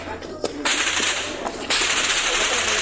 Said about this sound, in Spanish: En otro video difundido en redes sociales, pobladores de Chiapas se tiran al suelo en fuego cruzado. Para arriba, aquí no hay dónde salir. Aquí no hay dónde salir, jefe, para arriba. Nada más agáchense, agáchense, porque aquí están pegando los tiros.